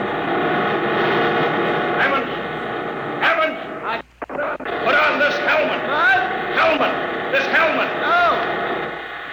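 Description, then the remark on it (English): A loud, continuous rumble of heavy road machinery, with big rotors that drive the road, fills the scene. It is dense and briefly drops out midway, with muffled voices faintly audible beneath the din. “Can't hear without an anti-noise filter.”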